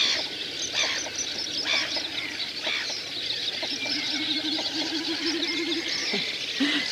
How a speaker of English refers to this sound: But I'm just wondering, is that mic picking up any of those snipe sounds? Let's have a listen.